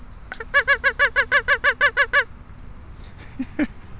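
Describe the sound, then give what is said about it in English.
A duck call blown: a rapid, evenly spaced run of about ten loud, nasal quacks, then a short pause and a couple of fainter, lower quacks. “I brought my duck call with me today.”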